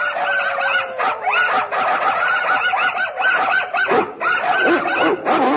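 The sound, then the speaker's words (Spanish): A crowd of puppies in a pet shop yaps and yelps excitedly all at once, high-pitched barks overlapping in a loud, nonstop clamor for the whole stretch. “En una tienda de animales, los cachorros se alborotan.”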